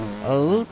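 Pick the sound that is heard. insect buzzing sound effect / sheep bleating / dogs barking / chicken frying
insect buzzing sound effect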